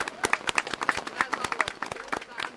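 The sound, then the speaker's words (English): An audience at an organized group's 40th annual gathering applauds, many hands clapping in a dense, irregular patter of sharp crackling claps that stays steady and fairly loud throughout. “I think we ought to give the ladies that started this a hand of applause.”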